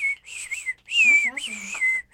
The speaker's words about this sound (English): And there's a bird in the room with us. Oh my.